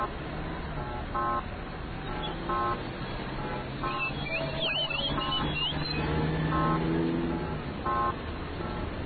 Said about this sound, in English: This week, coming to you from the streets of Beijing, this is what an audible walk signal sounds like at a major intersection.